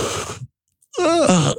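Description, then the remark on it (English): Someone imitates a yawn: a breathy intake of air, a short pause, then a drawn-out voiced groan that slides downward in pitch, loud and alone. “Instead, Christopher Yawn, Y-A-U-N. Sounds like...”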